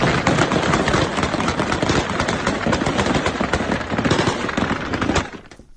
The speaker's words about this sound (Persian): با ادامه یافتن اعتراض‌ها علیه طالبان و پاکستان در روز سه‌شنبه، تصاویر منتشر شده در شبکه‌های اجتماعی حاکی از تیراندازی شدید طالبان در پایتخت افغانستان به منظور متفرق کردن تظاهرکنندگان است.